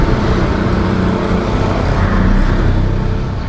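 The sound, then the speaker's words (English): A bus roars past on a road in Colombia, nearly hitting someone crossing the road, its heavy engine rumble loud and steady throughout with traffic noise filling the street. “Apologies, I nearly got hit by a bus then, which is not uncommon in Colombia.”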